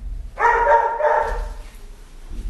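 A dog lets out two quick, close barks that run almost together, loud and full, followed by a quiet stretch with only faint low background rumble.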